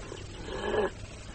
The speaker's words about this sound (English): Oh, God, the dogs. How the devil did they get in here?